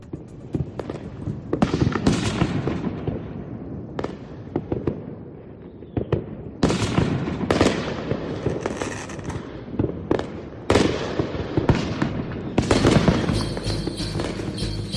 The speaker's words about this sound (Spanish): Pues queda muy claro, petardos y más petardos.